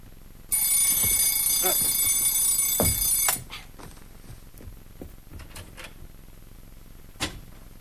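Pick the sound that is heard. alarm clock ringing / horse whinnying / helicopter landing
alarm clock ringing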